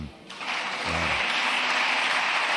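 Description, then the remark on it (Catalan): Sustained audience applause, a dense steady wash of clapping that swells in the first moment and then holds loud and even throughout, with a brief low murmur of voices near the start. “És que estan aplaudint l'estona. Estan aplaudint, clar, això sortirà...”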